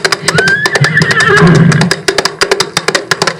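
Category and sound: animal, horse neighing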